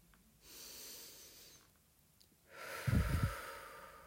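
A slow, deep breath drawn in through the nose, followed by a fuller, louder exhale that rushes out, with no talking.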